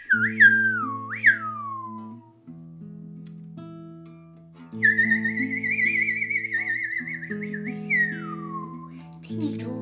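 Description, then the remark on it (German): A mournful whistled tune, the sad song of a little bird who is really a dwarf in a story, with gliding, falling notes and a long trembling held phrase, played over soft sustained low chords. “Er begann, ein trauriges Lied zu singen.”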